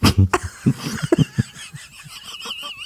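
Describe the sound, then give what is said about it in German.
A series of short, sharp coughs from someone with a cold, irregularly spaced over the first second and a half, followed by a thin, wavering wheeze. “Aber weißt du, dass man sehr gut Cola kann, Light, wenn man erkältet ist? Was denn? Husten.”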